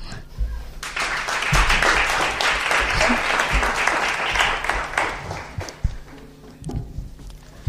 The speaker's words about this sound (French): Mesdames et messieurs, veuillez applaudir